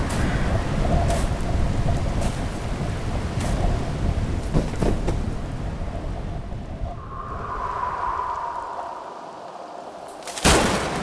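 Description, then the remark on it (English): Heavy, rolling thunder rumbles loudly amid steady rain, fading briefly before a sharp thunder clap from a very large lightning bolt cracks near the end. “That was the biggest fucking bolt of lightning I've ever seen.”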